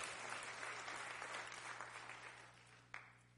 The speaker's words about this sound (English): Come on, let's give the Lord a hand clap. Clap for the Lord Jesus in this place.